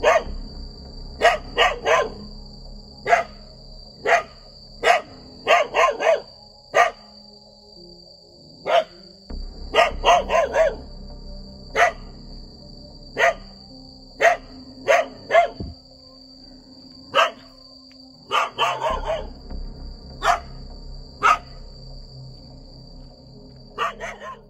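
A dog that had slipped its leash barks furiously and repeatedly at ヤマキュ (Yamakyu), loud sharp barks coming in rapid bursts and clusters with short pauses between, continuing for the whole stretch. A steady faint high tone hums underneath.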